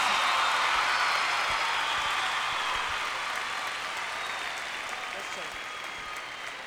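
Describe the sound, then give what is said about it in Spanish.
Sustained audience applause for a rapper, a dense wash of many hands clapping at once, steady and loud before tapering slightly toward the end, with no voices standing out. “Un aplauso para …, porque yo sé que él se lo merece.”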